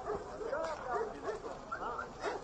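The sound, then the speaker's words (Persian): A search and rescue dog of the Iranian Red Crescent team barks and yips in a quick, uneven series of sharp calls, fairly loud, during earthquake search and rescue in Afghanistan, with voices talking in the background throughout. “جمعیت هلال احمر ایران با گروه های مجهز جستجو و نجات از جمله سگ‌ها و دستگاه‌های زنده‌یاب، خودروهای امدادی و نیروهای واکنش سریع نخستین گروه خارجی بودند که به یاری زلزله زدگان افغانستان رسیدند.”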